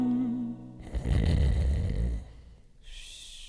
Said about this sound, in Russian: В участке шляпа, под шляпой лапа, и рокот храпа всему Огайо был знаком.